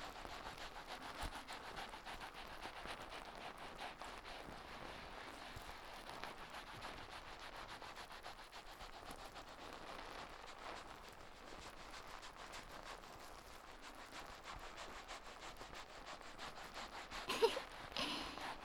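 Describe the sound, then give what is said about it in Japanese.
Shampoo foam being lathered into hair: a steady, fizzy crackling and squishy rubbing that continues throughout, with a brief louder rustle near the end and no voices. “泡の音よーく聞いてみてくださいね。”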